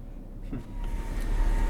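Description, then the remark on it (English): A car's low engine rumble rises gradually as the vehicle creeps forward slowly to the school gates, a steady muffled drone with a faint hum above it and no voices. “Emilio's car inches forward to the school gates.”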